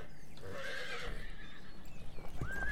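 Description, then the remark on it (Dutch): Horses in a stable whinny to each other, a long quavering neigh followed by a higher, shorter answering call, with faint stable noise and a few hoof thuds underneath. “Nou, dit is een soort hinnik naar elkaar, volgens ja, mij.”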